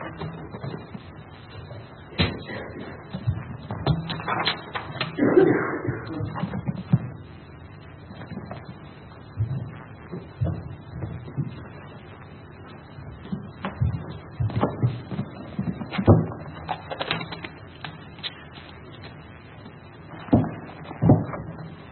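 Many Bible pages rustle and flip as an audience turns to Acts chapter 2 and 1 Corinthians 14, scattered crisp turns overlapping with soft thumps and shuffles, fairly quiet and spread out with no clear talking.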